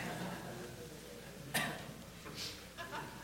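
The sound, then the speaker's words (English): A single sharp, sudden sneeze bursts out against a quiet, murmuring background, followed by a couple of softer breathy, hissing sounds. “Bless you.”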